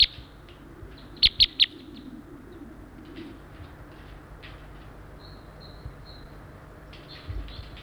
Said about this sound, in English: Oh my gosh, there's about three birds here right now.